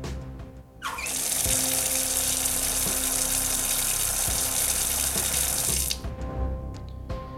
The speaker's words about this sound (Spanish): a la vista de cómo ha salido el agua, no sé, la veo un poquito con color, un poquito quizás tirando hacia turbia